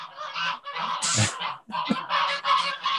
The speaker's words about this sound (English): He's told them off in Italian and in English, and he is now back. They're very well behaved geese. They are.